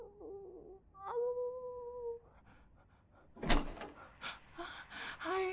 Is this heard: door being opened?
yes